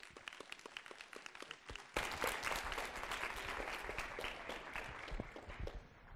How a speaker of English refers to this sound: If you could give him a big round of applause.